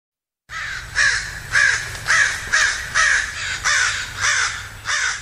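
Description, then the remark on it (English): Crows caw loudly in Sunnyvale, a rapid series of about nine harsh calls in a steady rhythm with no one speaking. “I'm Alexis Madrigal, and those are crows.”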